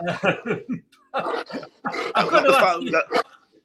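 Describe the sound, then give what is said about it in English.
A big male rescue St. Bernard dog vocalizes in a string of drawn-out, groaning yowls and grumbles, coming in short bursts with brief pauses between them. “Oh, up, St. Bernard. Come here, buddy.”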